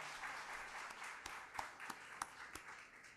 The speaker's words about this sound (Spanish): Al señor Ricardo Gómez le pido que se ponga de pie, por favor, y brindémosle un aplauso. Bien merecido.